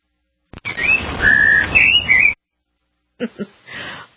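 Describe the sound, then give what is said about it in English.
A short jingle-like burst of whistled bird tweet sound effects, part of a jingle for a segment about Twitter, over a noisy, textured backdrop for about two seconds, followed after a pause by a few brief chirpy blips. “What happened to those birds? Where are they? They're flying around somewhere?”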